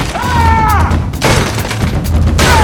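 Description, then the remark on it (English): A fire axe, arced overhead by Strickland, slams down onto a wooden desk, shattering it, with a loud, splintering crash, followed by a second heavy impact amid a dense, booming background with a brief rising whoosh early on. “The axe arcs over his head as Strickland brings it down on a desk, shattering it.”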